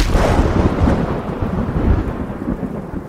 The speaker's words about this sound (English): That's when lightning struck the flag.